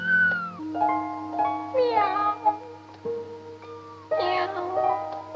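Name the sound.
cat meowing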